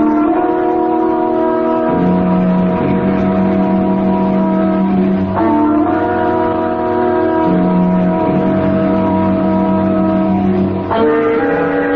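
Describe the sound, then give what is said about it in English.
An old motor car chugs and pulls away, its steady engine drone rising and dropping in pitch with a few distinct shifts, loud and continuous with no talking. “And if you don't want that, take yourself and your schemes and your newfangled motor car and get out of town.”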